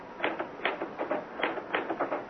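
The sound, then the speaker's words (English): Typewriter keys struck unevenly and hesitantly, about a dozen clacks in uneven bursts with stops between, moderately loud, with no one speaking. “Ah, why did I never learn to work a typewriter?”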